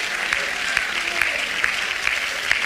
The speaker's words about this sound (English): Oh, let's clap our hands and let's shout unto God.